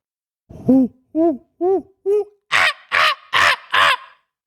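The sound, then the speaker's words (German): A human voice imitates a monkey with eight loud, evenly spaced calls, four low hooting ones followed by four harsher, higher shrieks. “Aber ich bin mir ziemlich sicher, es soll ein Affe sein. Ja, das ist ein Affe.”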